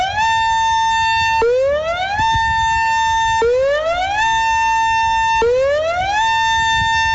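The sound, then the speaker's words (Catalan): A loud urgent evacuation alert siren, one of the sirens along the Foix river between Castellet i la Gornal and its mouth at Cubelles, wails alone, its pitch sweeping upward then holding steady in repeating cycles of about two seconds, with no voices present. “Demà sonaran per primera vegada i ho faran amb aquest so, que és el senyal d'alerta urgent d'evacuació.”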